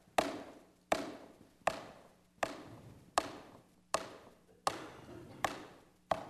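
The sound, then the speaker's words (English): Nine firm, evenly spaced knocks on a door, slow and steady, each one sharp with a short echoing decay, and no voices. “And so, him, the one through which the gift comes, stands and he knocks.”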